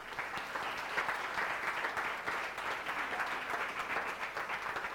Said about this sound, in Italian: Amen, gloria a Dio, un applauso a Gesù.